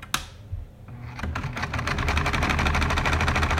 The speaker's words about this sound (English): I live in Kalamazoo. I have been inundated with the sound of my sewing machine during the pandemic shutdown.